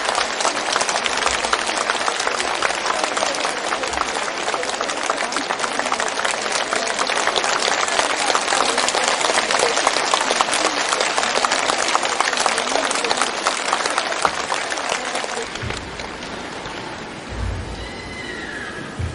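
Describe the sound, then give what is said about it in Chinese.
A large audience claps loudly and steadily for about fifteen seconds to welcome the station director, a dense crackling wall of applause that then tapers off and fades, leaving faint background noise. “让我们用最热烈的掌声，恭请我们尊敬的卢军红台长。”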